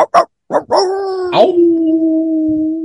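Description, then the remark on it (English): A dog gives three quick, sharp barks, then breaks into a long, steady howl that holds loud for a couple of seconds, with no talking. “Bark with me if you're my dog.”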